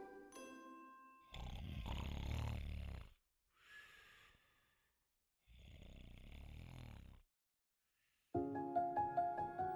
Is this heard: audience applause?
no